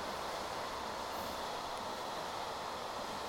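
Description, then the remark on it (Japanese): A train rumbles steadily and loudly, a dense wash of rail noise with no pauses or voices: a Shonan-Shinjuku Line local train bound for Ofuna, four doors per car and 15 cars long, arriving at platform 1 of a station. “まもなく1番線に湘南新宿ライン普通大船行きが参ります。危ないですから黄色い線までお下がりください。”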